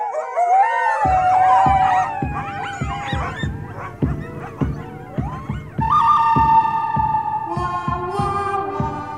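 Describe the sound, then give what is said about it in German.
Italo-Western film music opens with wailing, sliding tones built on a fourth interval that imitate a coyote's howl, then a steady galloping beat and bright brassy phrases join in; loud, with no talking. “Sie klingt nämlich nach Kojotengeheule.”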